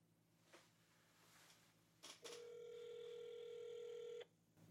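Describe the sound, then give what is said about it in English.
A couple of sharp clicks, then a steady electronic phone tone hums for about two seconds before cutting off, like an outgoing call ringing on the line. No one speaks. “Matter of fact, I'm going to call him right now and see if he answers the phone.”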